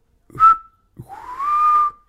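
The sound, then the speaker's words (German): A person whistles two bird-like calls, imitating bird language: a short steady note, then a longer note that slides upward and holds. The whistles are clear and fairly loud, with no talking. “Ja, und ich hab gepfiffen.”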